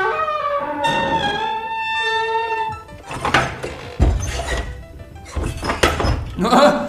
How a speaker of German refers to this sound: Was machen die Jungen nur so lange? Los, Erik, hau die Tür zu. Wird gemacht, Alexander.